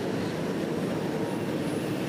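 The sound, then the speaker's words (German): A second large truck rumbles past, its deep, steady engine and road noise filling the whole stretch at a constant loud level with no voices. “Was macht der zweite große LKW hier?”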